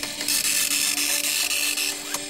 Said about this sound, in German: Das ist ein Matrix-Drucker, der setzt die Buchstaben aus einzelnen Punkten zusammen, wie man hier ja auch ganz deutlich sehen kann. Na, dieses Geräusch. Wer kennt das noch? Ich liebe es.